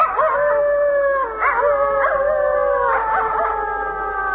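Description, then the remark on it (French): Several wolves howl together in a continuous chorus, their long, wavering notes overlapping and sliding in pitch. The howling is steady and fairly loud, with no voices. “Et ça explique le désarroi, bien sûr, des bergers exaspérés par les loups.”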